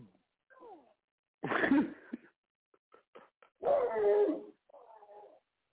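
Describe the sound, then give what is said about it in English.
A dog barks twice in loud, harsh, drawn-out bursts, with a brief whimpering yelp before and a softer whine trailing after, plus a few faint clicks in between. “Calm your damn dog down now.”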